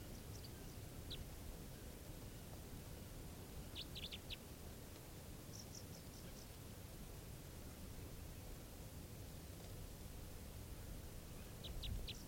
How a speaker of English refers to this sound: Really weird calls here. Very low pitch type 3 variant. Recording, the bird's calling now.